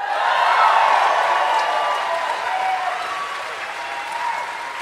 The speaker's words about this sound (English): That's a great note to get you to. That's how you make them clap.